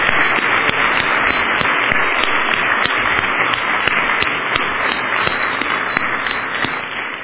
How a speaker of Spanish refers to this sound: Un aplauso a estos padres. Un aplauso a estos padres.